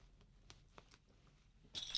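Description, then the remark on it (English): After a quiet stretch with a few faint clicks, a bright, jangling rattle of keys on a keychain being shaken erupts near the end, fairly loud, with no talking. “Take the keychain and shake the keys to make noise.”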